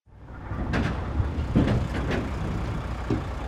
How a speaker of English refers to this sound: Moving trucks pull up to an expansive warehouse that's mostly empty, except for new election equipment and a few computers.